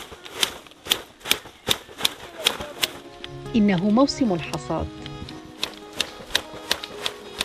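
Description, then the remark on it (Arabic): Large shears snip steadily through tea leaves during the harvest on a tea plantation in northeastern Turkey, about a dozen crisp, sharp cuts falling roughly every half second, while a voice speaks briefly over the rhythm partway through. “لا صوت يعلو على صوت المقص في مزارع الشاي شمال شرقي تركيا.”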